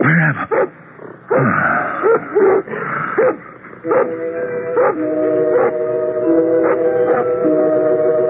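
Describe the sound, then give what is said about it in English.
A dog barks and yelps repeatedly in short bursts, then drifts into drawn-out, wavering howls, fairly loud with no one speaking. “What is it that disturbs your conscious mind, Doctor? A dog barking.”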